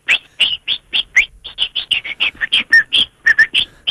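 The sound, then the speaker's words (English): A person mimics birdsong like a European thrush to a plant, with a rapid run of short whistled chirps, around twenty notes in quick, slightly uneven rhythm, fairly loud with no talking. “Can you chirp like a bird there and just see if you got the right one?”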